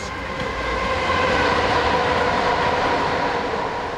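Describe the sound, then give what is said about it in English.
A train rolls past beneath the bridge above Southall train station, a loud, continuous rumble of wheels and engine with a steady metallic hum that holds for the whole stretch; no one speaks. “I'm standing at the bridge above Southall train station”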